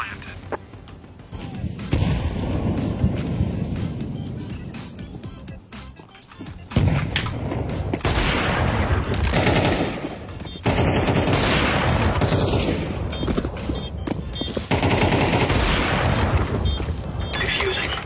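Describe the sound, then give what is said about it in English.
Loud, sustained video game gunfire shooting through a wall in rapid bursts, sharp cracking shots layered with heavy booming impacts, continuing almost without pause for most of the stretch. “Just use your teammate to find where he is and wall bang.”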